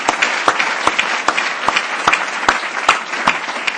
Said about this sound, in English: That was terrific, and I'd like to have one round of applause for all the commitment makers who spoke.